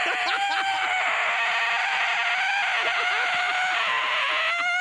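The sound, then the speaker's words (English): A voice lets out a long, shrill, screechy bird-like cry, held nearly the whole time with a wavering, strained pitch, loud, mimicking a screeching bird. “He's a screech owl.”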